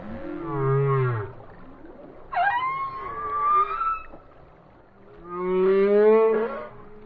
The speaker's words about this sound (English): Known for their alluring songs, Atlantic humpbacks spend their summers in nutrient-rich cold northern waters, where they fatten up on krill and small fish, and then head south for the winter to cozy up, mate, and give birth.